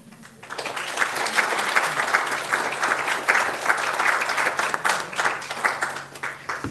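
Audience applause after a story reading swells quickly after a brief quiet start, a dense, steady wash of many hands clapping that holds fairly loud for several seconds before thinning slightly toward the end.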